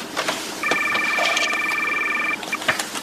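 A borrowed cell phone rings through the line during an outgoing call to a lawyer, a steady electronic tone held for nearly two seconds, then a short second burst, heard at moderate volume with faint background noise.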